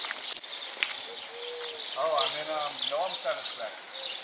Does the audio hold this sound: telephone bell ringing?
no